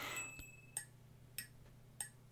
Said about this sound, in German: So hört sich jetzt nur, wenn man nur diese beiden Percussion-Elemente hinnimmt, das Glöckchen und diese Tasse Stift, die ich jetzt quasi auch nur unter den Refrain gesetzt habe, dann klingt es so.